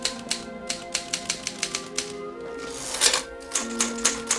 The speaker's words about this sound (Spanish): continúa tecleando.